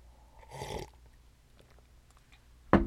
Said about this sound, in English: I'm going to sip my coffee to that one.